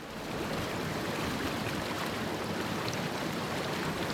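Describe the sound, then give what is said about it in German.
A grit chamber scraper moves along a wastewater basin about 3-4 metres deep, conveying the sand to the pumps: a steady, dense rush of flowing water with a low mechanical rumble, continuous for the whole stretch, with no voices. “Und dieser Räumer, der fährt jetzt gerade hier entlang, sodass der ganze Sand hier zu den Pumpen gefördert wird”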